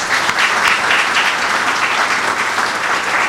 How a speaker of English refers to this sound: if we could just all give them one last round of applause.